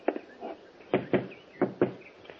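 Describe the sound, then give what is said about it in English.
Someone knocks on a door in quick pairs, a few sharp raps repeated twice after a brief pause, with no voices. “get the door.”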